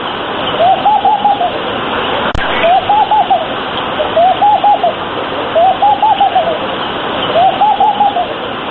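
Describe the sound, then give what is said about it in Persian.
A laughing dove coos in five evenly spaced, bubbling phrases, each a soft rise and fall, repeating over a steady rushing background hiss with no one talking. “دوستان گرامی، در نخست این مطلب درباره موسیچه، پرنده‌ای که نزد عوام سوچه پنداشته می شود، سخنان را تقدیم می کنیم.”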